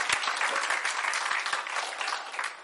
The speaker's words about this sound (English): You can clap. Es gloria a Dios. Puedes aplaudirle al Señor.